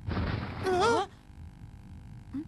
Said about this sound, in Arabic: يقول حاسوب إن شيئا من الفضاء تحطم على سطح القمر. شيئا سقط من الفضاء؟ إذن هذا سبب الصوت القوي.